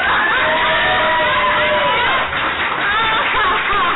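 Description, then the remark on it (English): A large crowd cheers and whoops loudly for about four seconds, many high shouting voices blending into a dense, steady roar with clapping mixed into the noise. “Give us some love, motherfuckers. Clap your hands.”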